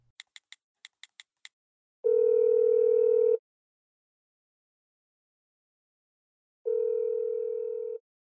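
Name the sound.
telephone dial tone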